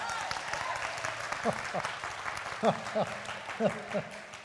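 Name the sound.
audience clapping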